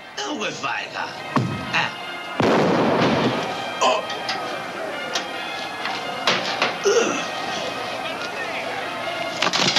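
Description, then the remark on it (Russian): A few sharp, loud gunshots from a scene in The Godfather Part II, where Vito Corleone shoots Don Fanucci with a pistol wrapped in a towel, crack out at irregular intervals over a busy, noisy background with some voices, each report ending abruptly. “Поднявшись к себе, Дон Фанучи щелкает по лампочке, и она вспыхивает, освещая Вито Корлеоне и его правую руку, обмотанную полотенцем, которая после второго выстрела вспыхивает.”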